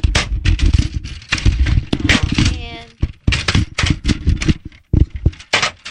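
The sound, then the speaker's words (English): A malfunctioning printer, just kicked, grinds and clatters in rough, uneven bursts, with a brief high mechanical whine in the middle and a couple of short pauses before the rattling resumes. “I just kicked the living bleep out of your damn printer.”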